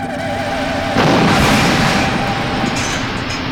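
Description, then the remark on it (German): A large explosion bursts in after a second of low rumbling, then roars on as a loud, sustained wash of crackling noise and deep rumble that slowly fades. “Die RAD, sie ist explodiert, sie ist explodiert.”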